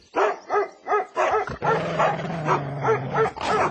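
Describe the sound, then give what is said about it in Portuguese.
A hunter's four dogs bark loudly in a quick, steady series of sharp yaps, with a lower drawn-out whine or growl running beneath the barking partway through. “Justamente neste momento, apareceu um caçador com quatro cachorros.”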